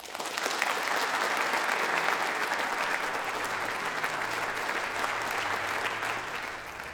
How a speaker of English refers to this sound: Ian McMillan reading his poem Those Seconds, summoning applause at the end of this evening's Proms Plus literary event, recorded earlier down the road at the Royal College of Music.